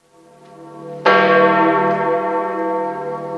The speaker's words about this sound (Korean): 성 베드로 성당에 종이 다시 울리자 산타마르타 집에서 운구 행렬이 시작됩니다.